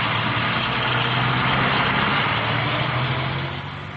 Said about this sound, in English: The soldiers piled into their Bedford lorries and rode away.